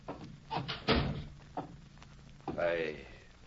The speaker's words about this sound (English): Come in and shut the door.